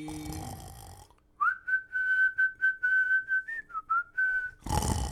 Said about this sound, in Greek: Καραγκιόζη, ροχαλίζεις. Με χριστουγεννιάτικο ρινγκτόν όμως, ε.